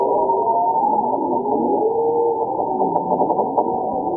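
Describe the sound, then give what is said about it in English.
Walruses singing underwater beneath the ice of the Bering Sea: overlapping low, warbling tones rise and fall in slow sweeps, steady and continuous, with a few brief sharp knocks near the end and no voices. “In addition to the bowheads, here are the sounds of walrus singing in the dark, also beneath the ice of the Bering Sea.”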